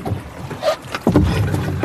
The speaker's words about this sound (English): It's a narrow metal boat with no seats, and the waves are building up. It's surprisingly choppy. We've just turned off the engine to drift for a bit, but we're all quite wet already, even after 5 minutes on the boat.